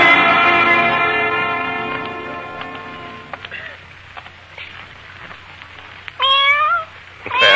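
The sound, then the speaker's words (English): A cat on a street in Vienna meows from a dark doorway: one long, drawn-out wail that fades, then after a quiet pause with faint background rustle, a second shorter meow rising and falling. “What's the matter, cat?”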